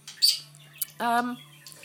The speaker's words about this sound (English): That's the budgie bird chatting away. I've actually rechristened little Jasper.